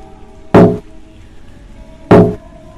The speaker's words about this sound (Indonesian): Namun, baru saja aku menuruni 2 lantai, dari dalam salah satu toko ada ketukan kaca cukup keras. Aku coba abaikan suara ketukan itu, namun terdengar semakin keras dan berada tepat di sampingku.